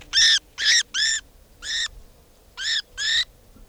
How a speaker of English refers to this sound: This now is bird 490.